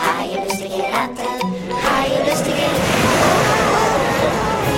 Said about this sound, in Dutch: Golven sloegen over het dek. De wind beukte in de zeilen en deed de andere masten wankelen. Het schip rolde en stampte als een op hol geslagen paard.